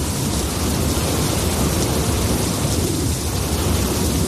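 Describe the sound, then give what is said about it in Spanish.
A steady, dense roar of heavy rain with a deep, continuous low rumble like thunder underneath, loud and unbroken throughout, with no voices. The storm is the brief but intense winter storm Juan, bringing snow, rain and cold to much of Spain. “Nieve, lluvia y frío en buena parte de España. Ha llegado la breve pero intensa borrasca Juan.”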